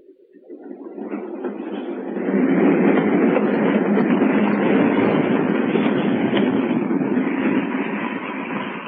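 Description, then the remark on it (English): A train rolls along the rails with a broad, steady rumble that swells in the first couple of seconds, holds loud and constant, then eases slightly toward the end as the train slows to a stop. No voices. “We're stopping. Signals, I suppose. This will make us later than ever.”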